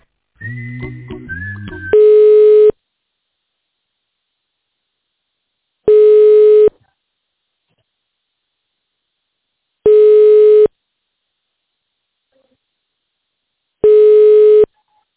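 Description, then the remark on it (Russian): A telephone ringing tone while waiting for an operator on a call to the company Spektr: four steady mid-pitched buzzing tones, each under a second, repeating every four seconds. A quick burst of dialing beeps comes first. No voices. “Пожалуйста, дождитесь ответа оператора или наберите добавочный номер сотрудника.”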